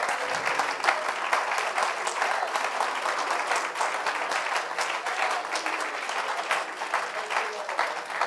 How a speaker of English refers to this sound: Why don't you clap your hands one more time and thank the Lord.